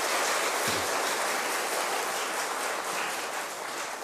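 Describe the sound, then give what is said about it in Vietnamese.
A sustained, dense burst of clapping from a large crowd, loud and steady for about four seconds with a slight fade near the end, no voices over it. “Cho một tràng vỗ tay thật là lớn để tán dương.”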